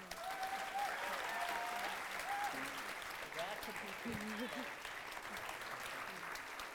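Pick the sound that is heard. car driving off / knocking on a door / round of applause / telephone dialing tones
round of applause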